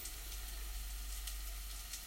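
A load of leeks goes into a hot pan and sizzles, a steady bright hiss sprinkled with small pops and crackles, quiet and continuous with no one speaking.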